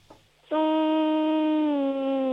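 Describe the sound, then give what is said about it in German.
A child's voice hums a steady, sustained tone, imitating the buzz of a bee in a sound-imitation game, holding one pitch for about two seconds with a slight dip near the end. “Okay, und jetzt hätte ich gerne, dass du summst wie ein Bienchen.”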